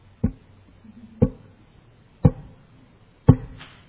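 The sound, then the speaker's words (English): A homemade sound effect of approaching footsteps: four heavy, dull thuds spaced about a second apart in a slow, steady walking rhythm. No voices, just a faint low hum between steps. “So, he heard the sound of footsteps coming towards him.”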